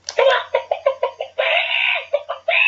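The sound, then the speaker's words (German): A short chicken-clucking jingle introducing a segment: a quick run of sharp, rhythmic clucks, then a long drawn-out squawk and a few more clucks, loud with no talking. “Zu einem ganz seriösen neuen Kategorie kommen, und zwar die Spalte Hühnergezwitscher.”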